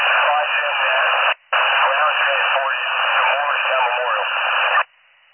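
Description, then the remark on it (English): Harsh, tinny radio scanner static with a garbled, unintelligible voice buried in the hiss. It cuts out briefly once, then crackles on steadily before stopping abruptly. “They're all static, that's that.”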